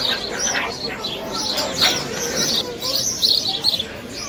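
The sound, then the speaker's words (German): Overlapping high chirps and squeaks from several meerkats calling back and forth, a busy, bird-like chatter over a low rumbling background with a few louder bursts near the end. “Und so klingt es, wenn Erdmännchen miteinander sprechen.”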